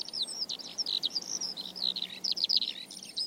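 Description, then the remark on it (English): A skylark sings in August, in the rain on a hill in the Pusey Vale, in a continuous, rapid stream of high, warbling trills and chirps that barely pause. The song carries on from start to finish, with no voices. “Then I heard a skylark sing, and skylarks shouldn't really be singing in August.”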